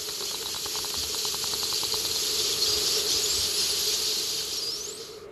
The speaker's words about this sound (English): A healthy marine ecosystem is filled with the sound of wildlife.